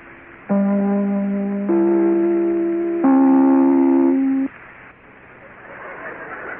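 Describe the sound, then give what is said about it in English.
Tallulah Bankhead rings her chime on NBC's The Big Show, three sustained, mellow notes in succession, each held for over a second with a rich harmonic tone, then cuts off, leaving faint hiss. “No, darling, that's Tallulah Bankhead ringing her chime and saying we'll be back in a moment, and this is NBC, the National Broadcasting Company.”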